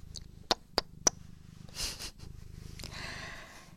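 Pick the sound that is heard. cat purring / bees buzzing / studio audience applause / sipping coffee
cat purring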